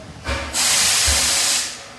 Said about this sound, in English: All the while, a train is pulling up outside the Clinchfield Railroad.